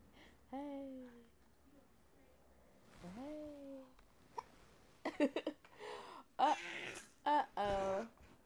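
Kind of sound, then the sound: human body sound, hiccups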